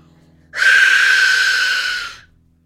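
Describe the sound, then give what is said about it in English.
A single harsh, breathy shriek from an Aztec death whistle, blown for about a second and a half, with a piercing tone over a rushing noise before it fades out. “So there you go, that was the Aztec death whistle”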